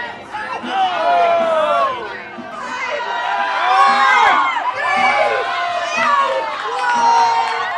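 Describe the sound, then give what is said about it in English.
A lively crowd cheers and shouts continuously as a game gets underway on King Pong, an oversized take on the Pong arcade game with big leather knobs. Many excited voices overlap with rising and falling whoops and yells, sustained and loud throughout. “As the game gets underway, the crowd reacts with gusto.”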